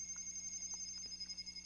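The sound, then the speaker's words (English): A phone rings with a steady, high electronic tone that holds throughout, faint, with soft ticking pulses underneath and no one speaking. “And my phone is ringing.”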